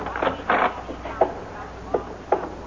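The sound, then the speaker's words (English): The stage door of the Exarban Coliseum opens: a brief scraping rattle, then a few sharp wooden clicks and knocks at uneven intervals, moderately loud against a quiet, hollow background. “Here's the door.”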